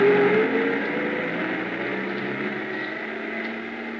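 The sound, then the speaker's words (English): A truck's engine as it drives away through the snow: a steady, droning motor rumble with a low tonal hum, loud at first and easing slightly as it continues, with no voices present. “I stood there in the snow watching the headlights of the truck move away.”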